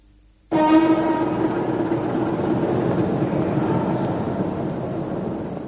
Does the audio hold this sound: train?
yes